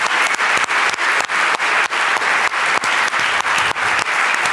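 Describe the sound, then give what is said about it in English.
A sustained burst of audience applause, dense and steady, with many hands clapping together and no voices standing out, for the speakers at the end of a Congress lightning talk session. “Please give a huge round of applause for all the speakers who came up to the stage and had the courage to talk to us.”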